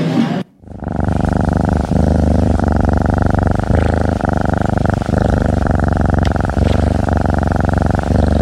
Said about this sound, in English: Did you recognize that sound? That's the sound of a healthy, well-cared-for cat. I truly hope you've been lucky enough to hear that.